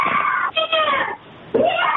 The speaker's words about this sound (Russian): Девушка, вот слышите, как она орет там за дверью.